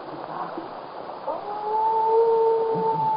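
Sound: wolves howling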